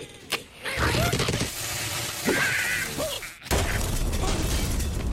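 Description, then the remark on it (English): Cartoonish bird squawks and warbling cries, apparently from the Angry Birds game, burst out over a busy clatter of video game sound effects, loud, with a brief pause before the noisy mix resumes. “Side of Angry Bird, perhaps?”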